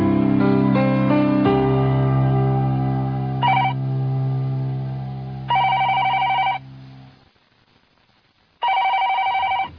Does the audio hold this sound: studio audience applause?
no